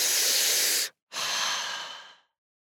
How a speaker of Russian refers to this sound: Давайте вспомним про наши золотые правила от Get Club. Дышите глубоко.